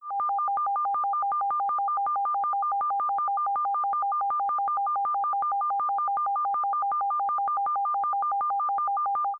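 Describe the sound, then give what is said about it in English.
Two steady electronic tones sound together without pause, one pitched lower and one higher, with a rapid fluttering pulse running through them at constant moderate loudness. No voices. “Now we are going to concentrate our attention on the lower tone, excluding the higher.”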